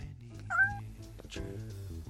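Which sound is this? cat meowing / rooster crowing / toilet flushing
cat meowing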